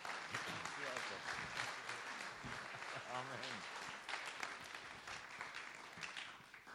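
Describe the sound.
An audience applauds steadily for several seconds, a dense, even wash of clapping from many hands, with a voice briefly speaking underneath the applause.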